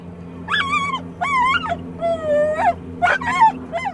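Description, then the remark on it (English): Pace, a dog on Ketchikan's rescue dog team, whimpers and whines eagerly during a morning of training, ready to play fetch, in a run of about five high, wavering cries with short barks mixed in. Fairly loud, with a low steady hum underneath and no talking. “Pace is ready to play fetch. To her, that's what a rescue is, but instead of tennis balls, she retrieves people.”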